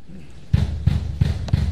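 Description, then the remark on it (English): FBI officers knock on the front door of a home in Fort Lauderdale, Florida, in the early hours of Friday morning before an arrest: heavy, booming knocks, four firm blows in a steady rhythm, loud, with only faint background noise between them. “Those are the sounds of FBI officers knocking on Trump associate Roger Stone's door on Friday morning”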